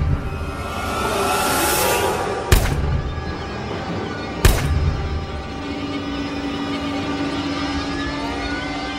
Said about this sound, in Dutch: Daniel schiet het volledige magazijn leeg op zijn vader. 8 schoten in totaal.